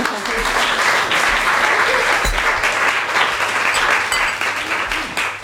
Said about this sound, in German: Insofern schön, dass ihr alle da seid und schön, dass unser Gast Maja Göpel da ist. Freue mich unglaublich. Wir können, glaube ich, erstmal einen Applaus geben, dass sie mit uns...